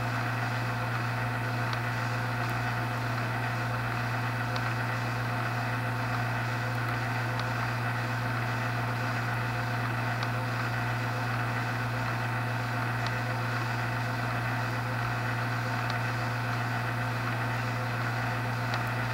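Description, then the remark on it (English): A boat's whistle sounds as one long, steady, droning blast that holds unbroken throughout, rich in layered tones, with no voices present, while snow comes on the surrounding hills. “Blowing its whistle. That's probably a last boat.”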